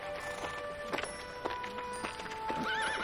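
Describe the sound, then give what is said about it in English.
A horse behind a fence: its hooves clop a few times at uneven intervals, then a short, wavering whinny rises near the end, all over a steady humming background. “A horse looks beyond the fence at Lena as she walks.”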